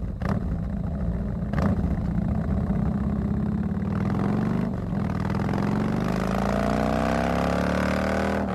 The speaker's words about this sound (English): And now, for your listening pleasure, a Harley-Davidson engine.